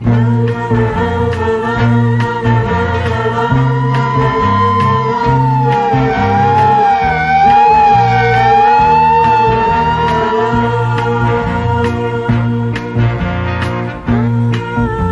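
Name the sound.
speeding ambulance siren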